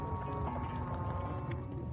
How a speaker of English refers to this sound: A stampede! Where did it come from?